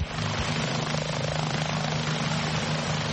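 A Fairfax County police helicopter, Fairfax One, returning to its hangar after a mission near Washington, D.C.: its rotor beats in a steady, rhythmic thump over a continuous engine roar, loud overhead the whole time, with no voices.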